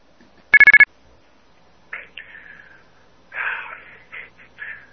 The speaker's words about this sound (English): I just had like three phones in my house ring while I was trying to deliver this rant. Okay. And so I completely lost focus. All right, like someone called my phone and it started beeping,